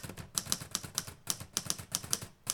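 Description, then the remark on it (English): Rapid clicking of keys on a keyboard as someone types up notes, a steady patter of sharp taps at an uneven rhythm, fairly quiet, with no voices. “And I'm just going to finish typing up these notes.”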